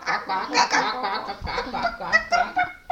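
A flock of hens on a farm in Sydney, Australia, clucking and cackling together, loud, with overlapping calls running steadily for about three seconds and no talking.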